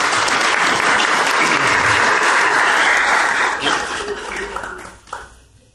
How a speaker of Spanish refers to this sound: Muchas gracias a los compañeros por acompañarnos, los compañeros de Corea, y pido un aplauso para ellos.